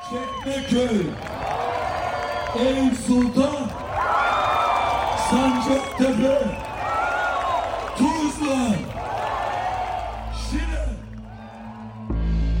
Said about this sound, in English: After it became clear that İmamoğlu would win, I headed to City Hall, where I found thousands, perhaps tens of thousands, of CHP supporters listening to İmamoğlu give his victory speech, but also singing, dancing, lighting flares, and honking.